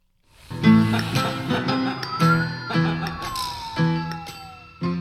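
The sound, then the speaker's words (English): A thin, wavering whistle slides slowly downward in pitch, off-key and unsteady, over a bright, jingle-like run of repeated chiming notes. “That was a terrible whistle.”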